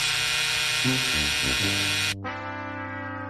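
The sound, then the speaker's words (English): A loud, harsh electronic buzzer, hit by hand, blares continuously for about three seconds, its pitch stepping up and down a few times before the tone turns thinner and duller toward the end. No one speaks. “I mean, you knew I was going to hit the buzzer as soon as we saw the Dynamic Dudes.”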